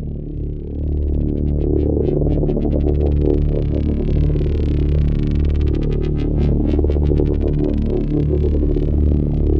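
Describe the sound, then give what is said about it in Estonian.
A crackling, rustling texture, added as a layer in a music track, sweeps across a loud, steady low drone, its brittle pulses flickering through the upper range and swelling toward the middle before thinning out. No one speaks. “ja siin siis sõitis üks selline krabin siit üle .”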